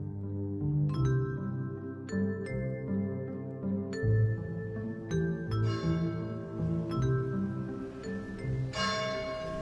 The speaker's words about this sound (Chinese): 2002年3月23日，悠远的钟声回响在三圣学院的校园